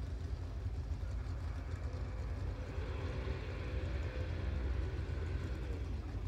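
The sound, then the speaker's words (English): A drag racing car engine warms up in the pits area on the other side of the track, about a quarter mile away, doing volume checks for its next run on a gusty, windy day, giving a steady, deep, continuous rumble with a rough low throb and no pauses. No one speaks. “We've got a car over the other side of the track in the pits area, and I guess they're just warming the engine up for their next run, just doing some volume checks.”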